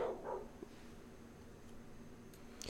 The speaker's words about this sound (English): So, I don't know if you guys could just hear that, but my neighbor's dogs were going crazy outside, and I was afraid they were going to wake up my sleeping baby, so I went to see what they were barking at. There's a possum in my backyard.